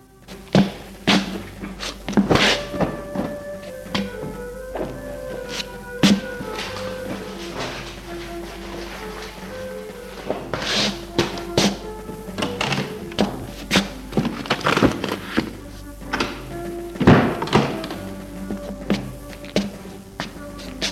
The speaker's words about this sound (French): Puis, il va et vient dans la pièce pour ranger des choses qui traînent. Vêtements, papiers, livres.